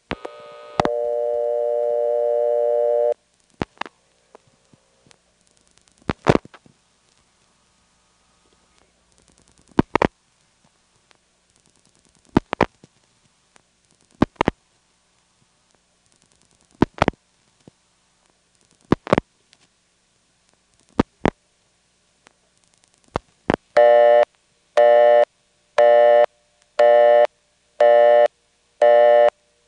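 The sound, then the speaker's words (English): A telephone callback circuit's ticking tone, heard on receiving the call back after dialing the circuit's two-digit code plus a seven-digit number: sharp, evenly spaced clicks about every two seconds, opened by a short buzzy tone and ending in a rapid pulsing busy-style signal. No voices. “While we're at it, let's dial the two-digit code for the callback circuit plus my seven-digit number, hang up, let the phone ring a second, and then receive the call. We'll hear the ticking tone.”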